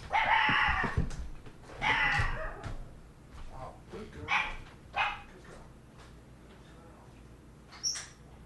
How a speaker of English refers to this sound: Our dog has just learned to bark, and now no one was at the door. But that's good that she's barking or something. Good girl. Good girl. Good girl. You bark when people break in our house. You bark.